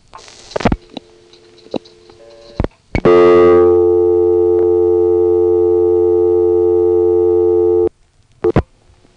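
A local telephone busy signal: a loud, steady buzzing tone holds for about five seconds, preceded and followed by sharp line clicks and thumps, with no one talking.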